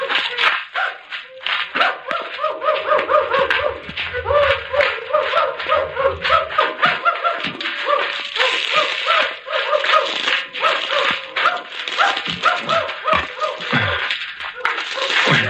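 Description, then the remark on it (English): A pack of tracking dogs, used by pursuers trailing people, barks and yips continuously, overlapping high-pitched yelps and whines forming a busy, excited chorus that stays loud throughout. “Horses. Chickens. And now dogs.”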